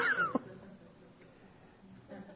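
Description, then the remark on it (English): A single short cat meow at the very start, a quick falling cry, followed by faint low background noise for the rest of the moment. “And you hear this meow behind you, and you turn around and look, and it's your dog.”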